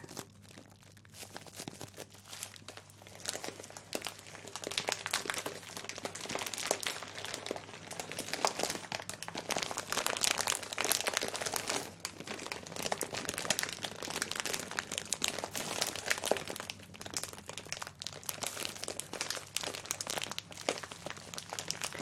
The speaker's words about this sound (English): That's a nice amount of crunch and crinkle.